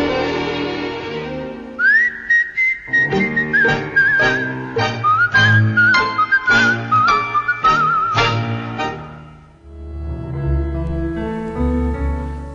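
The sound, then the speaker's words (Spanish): A tango singer's clear, melodic whistle carries a tango tune over rhythmic instrumental accompaniment for several seconds, sliding between sustained notes, before the band continues alone. “sino que hacía algo que yo nunca en mi vida he podido hacer, y me da una envidia la macha, y es silbar bonito.”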